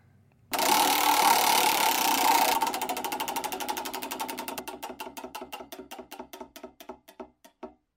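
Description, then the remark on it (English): A prize wheel whirs in a fast blur of ticks, then its clicking slows steadily into distinct, sharp clacks spaced further and further apart until it stops. No voices. “Let's get the wheel going.”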